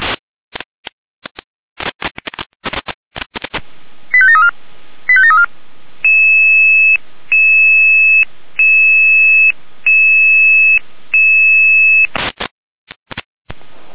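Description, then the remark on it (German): Radio dispatch alerting tones from the Jena dispatch control centre alerting units: after crackly bursts of static and two short chirping tone bursts, a steady two-pitch tone pulses five times in an even rhythm, clear and fairly loud, then static returns. “Jena mit Alarmierung.”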